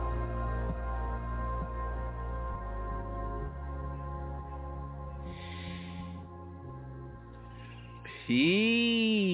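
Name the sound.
bird whistling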